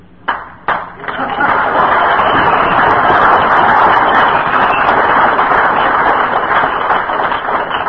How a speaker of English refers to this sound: I've never had an applause for this. This is the GSR crowd, isn't it?